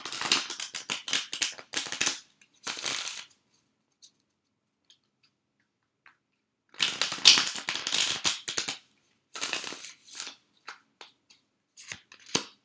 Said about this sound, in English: So and now we have our live shuffle, because I know you guys would miss it if I didn't pull at least one card live. The card of the week.